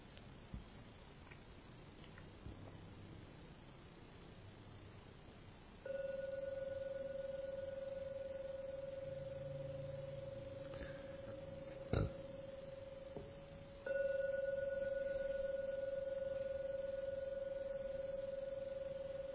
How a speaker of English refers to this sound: I will now ring the gong 3 times to end today's meditation.